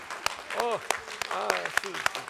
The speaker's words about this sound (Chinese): 所有的母亲，请能不能站起来，我们给她一个掌声，谢谢她们。